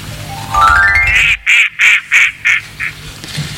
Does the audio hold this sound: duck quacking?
yes